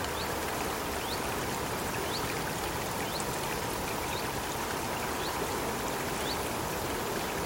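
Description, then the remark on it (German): A steady babbling stream rushes through a Central European primeval forest in the Bavarian Forest, Bavaria, filling the scene with constant watery noise, while small birds chirp intermittently in short rising calls above it. No voices are present. “Dieser plätschernde, zwitschernde Natursound, der kommt aus dem Bayerischen Wald.”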